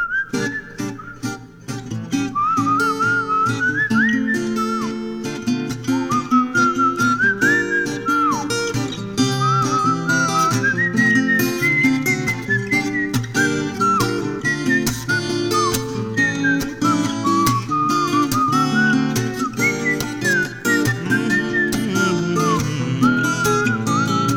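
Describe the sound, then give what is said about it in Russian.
A whistled melody glides and warbles above a steady, full musical backing, playing a continuous tune for the whole stretch with no voices. “Знакомых в зале каждый вечер ищу, им со сцены улыбаясь свищу.”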